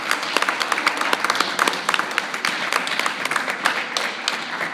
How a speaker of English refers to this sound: Come on, let's worship God by giving him a hand clap. Come on, let's simply worship God by giving him a hand clap.